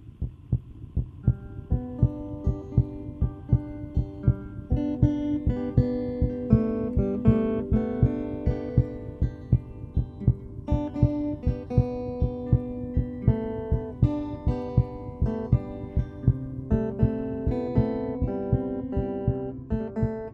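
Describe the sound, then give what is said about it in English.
A steady, thudding recorded heartbeat of a 17-year-old boy pulses low, setting the rhythm beneath sustained, humming melodic music for the whole stretch, with no voices present. “And yes, the rhythm section is a heartbeat.”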